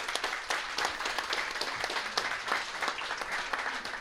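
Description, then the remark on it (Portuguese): Steady audience applause for Sá Dias, a dense crackle of many hands clapping at once, sustained at an even moderate level for several seconds with no voices standing out. “Portanto, uma salva de palmas para o Sá Dias.”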